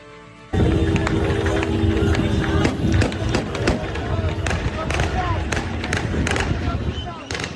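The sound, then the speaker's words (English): Repeated sharp gunshots crack out in irregular bursts over a loud, dense crowd cheering and shouting outdoors in Syria, as rebel supporters fire in celebration in the streets after rebels took Damascus. The celebration continues steadily throughout. “The gunfire there in celebration as rebel supporters cheered in the streets and they tore down monuments to the Assad family.”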